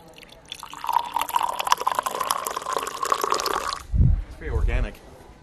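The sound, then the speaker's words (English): Tea pours steadily into a cup for about three seconds, a splashy stream whose pitch rises as it fills, followed by brief vocal sounds once the pouring stops. “Now the pouring sound effect.”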